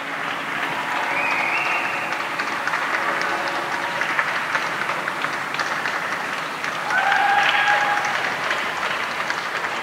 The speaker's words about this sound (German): Ja, wir hört es ganz schön. Das dauert sehr, sehr lang. Also 2 Minuten, 3 Minuten dauert der Beifall in diesen Hinterhöfen im Stuttgarter Lehenviertel.